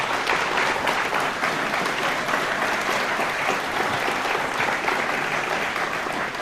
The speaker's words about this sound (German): Und die Bar war dieses Jahr sehr gut organisiert. Es ist fast schon eklig, wie gut das organisiert war. Also Applaus dafür.